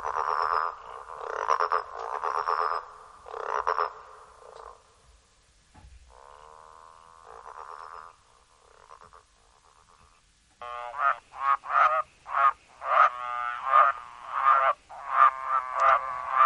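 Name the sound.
growling grass frog calling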